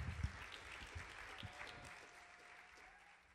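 Steady audience applause, a dense wash of many hands clapping that holds fairly even before slowly tapering off toward the end.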